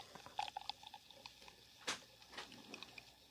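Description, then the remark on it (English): Liquid splashing and fizzing in a long pour of beer into a glass, a steady trickle with small bubbly pops and a brief louder gush partway through, no voices. “That's a long pour there, dude.”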